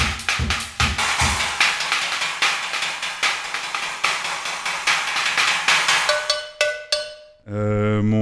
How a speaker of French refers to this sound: Et ça, c'est quoi? Une cloche de vache.